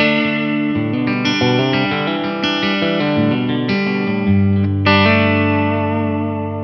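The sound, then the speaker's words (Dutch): An electric guitar played through its bridge humbucker pickup, with a bright, overdriven tone, strums a series of sustained chords with shifting voicings, rich in harmonics and steady in loudness, with no voices. “Ja, ook hetzelfde met die brug pick-up.”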